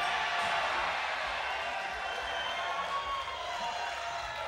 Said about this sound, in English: Come on, ladies and gentlemen, let's give her a great big round of applause.